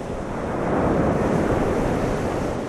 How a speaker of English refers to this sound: The wind is brisk as big waves roll in.